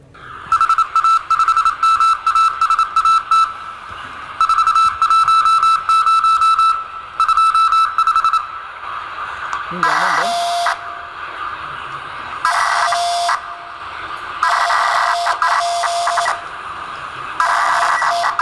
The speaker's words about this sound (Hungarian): Ugye ez kétfajta digitális moduláció volt, mint azt hallottátok. Az eleje az az úgynevezett morze, ez az OOK, ez a bekapcsolom a sípot, meg kikapcsolom a sípot jellegű dolog. Hát ez konkrétan lemorzézte a hívójelét,